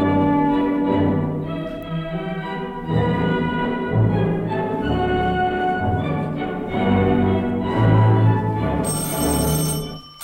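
A police chief's old-fashioned telephone bell rings loudly and insistently in repeated bursts, with short gaps between rings and no one speaking.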